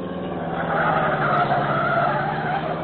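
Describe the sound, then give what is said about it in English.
A pursued car turns, its tires squealing in a long, steady skid over a droning engine, the screech rising slightly in the middle before holding loud for about three seconds. “Look, other car turning again.”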